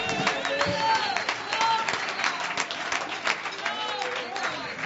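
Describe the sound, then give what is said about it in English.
A church audience gives the Lord a hand clap praise, clapping in a dense, sustained burst of applause for about five seconds, with raised voices and excited calls rising over the clapping. “Give the Lord a good hand clap praise.”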